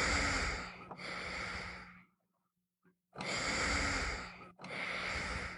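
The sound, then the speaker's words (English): A portable ventilator, the breathing machine behind the seat of a young man's motorized wheelchair that keeps him alive, whooshes loudly in long, breathy pushes of air, pausing briefly into silence before the rhythmic cycle resumes. No one speaks. “The machine's whoosh punctuates his presence in the room.”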